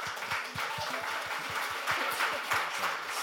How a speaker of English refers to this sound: Clapping with a microphone, you never really master it. It just doesn't look cool.